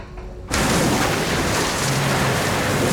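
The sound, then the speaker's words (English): A sudden loud rush of water begins after a brief quiet moment, then continues as a steady, dense roaring gush pouring into a ship's ballast tank, which is rapidly filling up, unbroken. “Water continues to pour into the ballast tank.”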